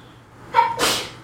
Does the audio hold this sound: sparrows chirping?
no